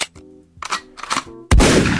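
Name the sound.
explosion sound effect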